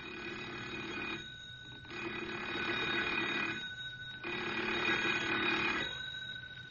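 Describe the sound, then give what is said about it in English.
A telephone bell in a small community store rings loudly in long, repeated bursts, about three full rings separated by short pauses, with a fourth starting at the end. Nobody speaks. “They're sitting in their rocking chairs contemplating their fruitless trip, while the telephone rings loudly.”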